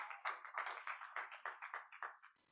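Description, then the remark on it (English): An audience claps for the Lord Jesus in a brisk, steady patter of many overlapping hands, moderately loud and bright, with no voices over it, tapering off at the end. “Clap for the Lord Jesus.”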